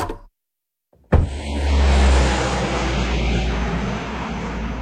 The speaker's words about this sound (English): As the plane made off across the channel, Bond tuned his receiver.